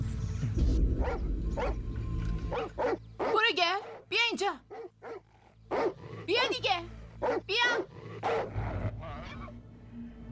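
A rabid dog's howling cry, a roar showing the rabies virus has reached its brain: a series of loud, strained, wavering yowls and yelps in close bursts, rising and falling in pitch over a low background rumble.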